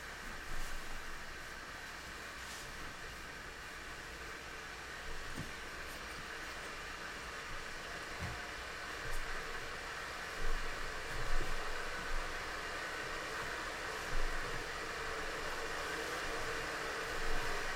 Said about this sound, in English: You will now hear an auditory sound that sounds like hissing. The hissing will get louder.